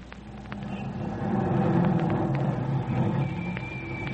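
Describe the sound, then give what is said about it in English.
A car engine hums and rumbles steadily, swelling slightly as the car drives along, then easing a little toward the end as the car stops at a drugstore, without fully dying away. “what are you stopping for?”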